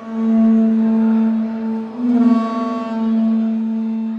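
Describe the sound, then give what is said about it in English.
A simulated dinosaur roar greeting visitors at a museum dinosaur exhibit with Tyrannosaurus rex skeletons: one long, loud, deep tonal bellow that holds a steady pitch for about four seconds, swelling briefly in the middle, with no voices. “This is a hands-on display with interactive games where children can play paleontologist, and visitors are greeted with the simulated sound of a dinosaur's roar.”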